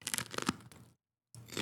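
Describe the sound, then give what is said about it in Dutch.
A crisp crunch of someone biting into a thick, dark green food, with crackling bursts, a brief silent pause, then more crunchy chewing. No one speaks. “neemt een goede hap.”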